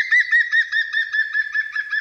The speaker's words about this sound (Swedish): De kommer här igen som påminnelse och jämförelse. Gröngöling först.